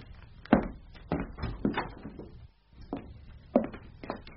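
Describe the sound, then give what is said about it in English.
A door being opened, with a series of wooden clunks and thuds at uneven intervals, moderately loud, no voices. “put that chair down at once and open the door.”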